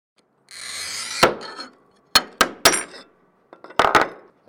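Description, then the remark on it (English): A glass artist scores and cuts glass in his Squirrel Hill studio, on an otherwise unused level of a parking garage: a gritty scratching stroke, then a series of sharp taps and clinks as the glass is struck and snapped, with short silences between. “is scoring and cutting glass in his Squirrel Hill studio, his sheepdog sitting by his side.”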